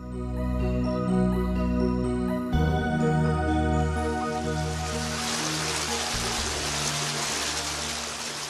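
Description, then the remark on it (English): Sustained musical tones fade as the steady splash and rush of a city fountain in Rome swells in midway, the flowing water fairly loud, continuing to the end with no voices. “Everywhere you turn, there's a water spigot or just a beautiful fountain.”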